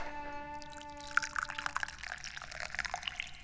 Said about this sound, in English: And let me pour you some tea.